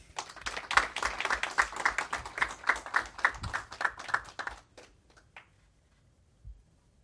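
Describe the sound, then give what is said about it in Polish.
Audience applause at an award ceremony as the prize winner is invited onto the stage: a dense burst of many hands clapping for about four and a half seconds, then thinning to a few scattered claps and fading into near silence. “Prosimy o brawa.”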